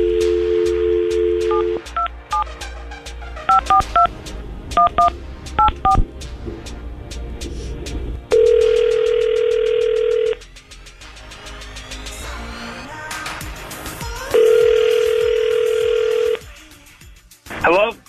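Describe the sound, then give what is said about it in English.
A brief steady tone, then a quick run of keypad dialing beeps, followed by two long, level ringing tones separated by a few seconds of pause, as the Tampa Bay's Morning Crew hosts of radio station 99.5 QIK call a man on the phone. “So, yeah, we're gonna get him on the phone right now.”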